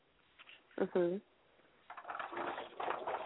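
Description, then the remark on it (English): A glass door is opened to go outside, with a short, high squeal followed by a second or so of steady rattling, scraping rumble as it slides along its track. “Sorry, my glass door is so loud when I'm going outside.”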